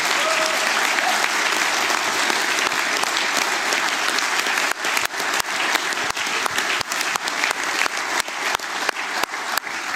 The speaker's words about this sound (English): so these six individuals here, spend a lot of their spare time and way more spare time than all others that help to make this event happen. So please have a big round of applause for all these six that make this possible.